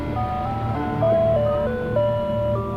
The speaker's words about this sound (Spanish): Resulta que se oía una música de helados. Lo supieron porque una vecina dijo que esa música se escuchaba en los camiones de helados en Estados Unidos. Ella había vivido ahí y sabía. De repente el camión apareció en la avenida principal.